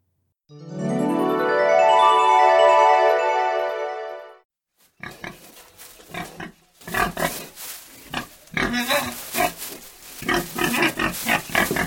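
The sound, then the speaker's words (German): A pig gives a long, drawn-out squeal, then breaks into a rapid, uneven run of snorting grunts and oinks, fairly loud, with no voices. “Oh nein, ein Schwein.”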